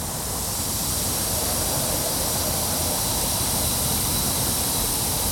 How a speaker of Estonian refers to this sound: Ja mis aur sealt meil tuleb? See on selline moderne purskaev meil, selline auru purskaev, aurukaev. See udupurskaev paiskab õhku auru, mille tuul laiali viib ja tekitab vaatajates elevust.